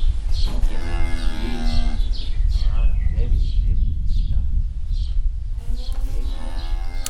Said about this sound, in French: Voilà un petit moment de poésie avec une vache.